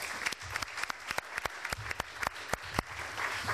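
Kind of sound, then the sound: crowd, audience applause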